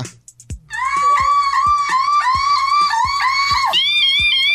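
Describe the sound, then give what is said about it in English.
A human voice imitates a car alarm for the hashtag car alarm challenge, holding a loud, warbling high-pitched tone that sweeps up and down in a steady repeating cycle, with rhythmic low thumps pulsing underneath about twice per second. “Hashtag car alarm challenge where you do your best imitation of a car alarm.”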